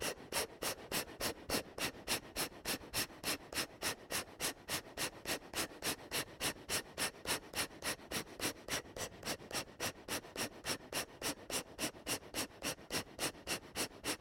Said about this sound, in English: and you can make up a number, or you can tell me the number of exhales we should do based on your real age. Whatever. You can just tell me any number. A lot of exhales? Okay, fine. Take a deep breath in. Exhale, breathing. Let's begin. 1, 2, 3, 4.